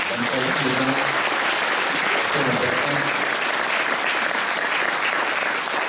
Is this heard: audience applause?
yes